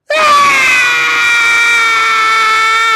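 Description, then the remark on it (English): A person imitates a baby's wailing cry, letting out one loud, sustained, high-pitched scream that starts abruptly and holds steady for about three seconds, with no other talk. “You add the crying. If your Bible was interactive, you should have lots of screaming.”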